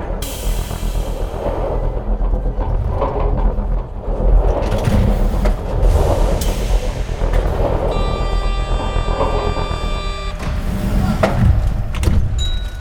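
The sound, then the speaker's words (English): A bus rumbles steadily, low and loud throughout, in a recording by Matthew Adickman. Partway through, a shrill, buzzy high-frequency whine with stacked overtones rings out for a couple of seconds. Sharp clunks and hissing bursts follow near the end. “He was our source for those high-frequency bus sounds.”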